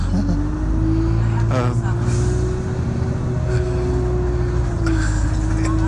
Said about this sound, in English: It's quite a noisy bus, so it's it never seems to happen like this in the movies, does it?